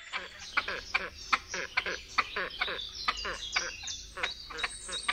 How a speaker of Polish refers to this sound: Do rytmicznego gdakania jednego osobnika po chwili włącza się drugi. Pierwszy ptak zaczyna przejawiać agresję w stosunku do rywala, a jego głos staje się dwusylabowy i bardziej nosowy.